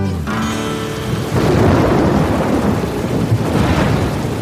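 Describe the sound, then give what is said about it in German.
A strong thunderstorm over a national park, with deep rolling thunder over a dense, steady hiss of heavy rain, loud. A brief tonal sound fades out at the very start before the storm swells. “Ein starkes Gewitter zieht über den Nationalpark.”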